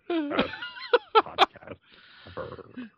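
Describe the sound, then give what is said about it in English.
Someone breathes heavily and raspily right into a microphone, imitating Paladin's wheezy breath sound effect, with a few voiced, groaning bursts and hissy exhales over a few seconds. “You know, just 5 minutes of all us breathing into our microphones to try to imitate Paladin's breath sound effect.”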